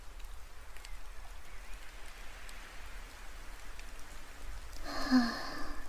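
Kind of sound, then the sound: nature, rain falling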